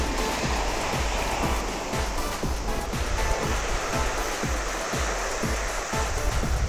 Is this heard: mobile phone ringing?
no